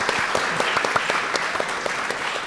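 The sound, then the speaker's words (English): A crowd applauds steadily at a literary panel event at Sotheby's, a dense wash of many hands clapping at an even volume throughout, with a few sharper individual claps standing out. “So another round of applause for Jill, I think, as well.”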